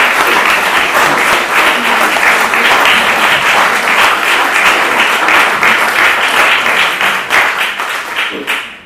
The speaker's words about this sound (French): on peut l'applaudir, c'est la dernière lecture.